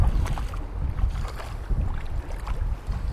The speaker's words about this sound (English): We also float down the Karnali River on a breezy day with some kids from an American school in Saudi Arabia.